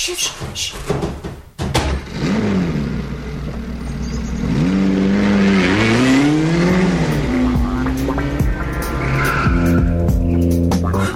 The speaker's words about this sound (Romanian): Mașina a plecat! Să ne dăm repede jos! Prea târziu, acum mergem cu viteză prea mare, riscăm!